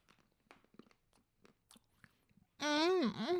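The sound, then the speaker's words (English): Soft, irregular crunches and wet chewing of oat milk and dark chocolate for a couple of seconds, then a loud, drawn-out hummed 'mmm' with a rising and falling pitch cuts in. “I want to just start with the oat milk and dark chocolate, and then we'll do the sea salt almond thing.”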